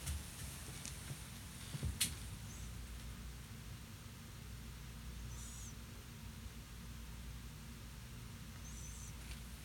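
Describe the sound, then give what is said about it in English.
A sleeping female pet cat snores faintly, each breath ending in a thin, high squeaky whistle about every three seconds over a low, steady rumble. No one speaks. “She's snoring like a person does.”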